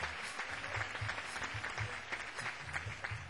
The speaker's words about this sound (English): He's a disc jockey, he's a manager, he's a producer, he's many things. Of all those things, he's also my friend. I'd like for you to give him a big hand. …, he was over in Japan with us, came over there, right there. ….